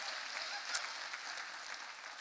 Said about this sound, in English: We named her middle name after my mother, who's here with us this morning, visiting to meet her for the week. We can clap my mom up. Come on.